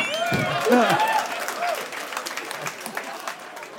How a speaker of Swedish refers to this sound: Applådera alla som är från Linköping. Det är inte så jävla många ändå. Applådera alla som inte har föräldrar som är syskon.